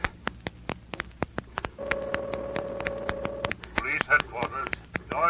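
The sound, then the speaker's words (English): A quick run of clicks like a phone being dialed, then a steady ringing tone on the line that stops unanswered, followed by a voice starting to talk. “Don't they answer? What's wrong?”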